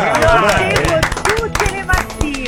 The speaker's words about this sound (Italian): Un applauso!